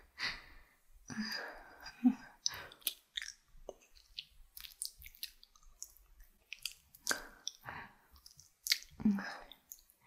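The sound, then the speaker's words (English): Heavy, uneven breathing, with breathy sighs and sharp intakes mixed with soft wet, squishy mouth sounds, continuing throughout. “Your breathing's changed.”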